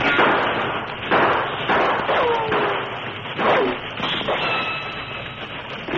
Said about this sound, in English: Half a dozen more men joined Scar at the top of the hill, and as the train steamed toward them, they opened fire on the locomotive.